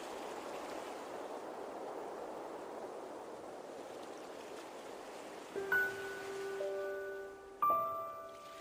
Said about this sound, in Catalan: Quan tothom dormia, em vaig aixecar, la vaig agafar i me la vaig posar a l'orella. Sonava com si les onades vinguessin a petar les meves orelles.